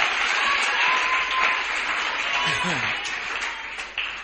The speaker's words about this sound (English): Oh, I thought you'd be clapping. I don't understand.